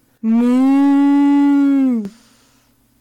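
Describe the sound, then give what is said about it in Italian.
A person imitates a cow with one loud, drawn-out moo lasting about two seconds, steady in pitch before sagging at the end, followed by quiet. “La mucca. …. Dai, ormai la mucca si fa.”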